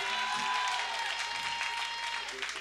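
Steady applause from an audience at a live band concert as another musician joins the stage, a dense wash of many hands clapping at an even, sustained level, with a faint tonal hum running underneath.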